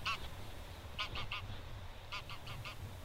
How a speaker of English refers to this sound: I am the rhythm of wing beats and cries, skeins of migrating geese.